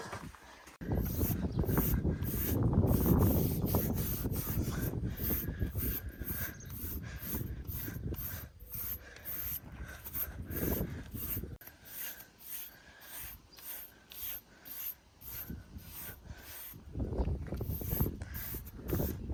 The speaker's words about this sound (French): On va lui passer un petit coup de brosse à ce poney. Hop. C'est parti.